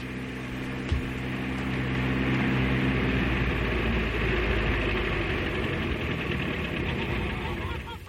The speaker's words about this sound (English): Hey, listen. What is it? It's a car.